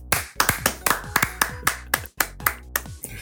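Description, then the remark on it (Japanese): A run of crisp hand claps, about a dozen sharp strikes in a quick, slightly uneven rhythm, fairly loud with no voices. “拍手でごまかしてたんですけど、バレました。”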